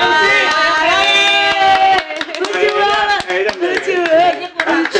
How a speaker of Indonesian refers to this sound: Mesti kita tepuk tangan.